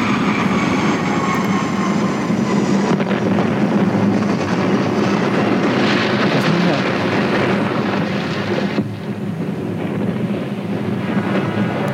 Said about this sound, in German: Original Flugzeuggeräusch.